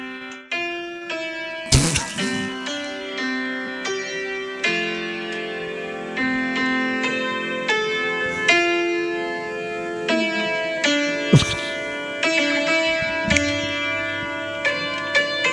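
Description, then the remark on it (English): An old piano plays Happy Birthday, played back on a phone, its bright, ringing notes sounding almost like chimes, steady, with a couple of sharp knocks partway through and no voices. “I love when an old piano sounds like chimes.”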